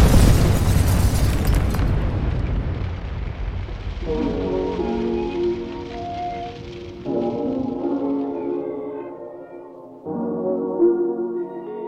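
A loud explosion bursts at the start, its rumble fading over a couple of seconds, then sustained tonal chords rise and shift in steps until the end.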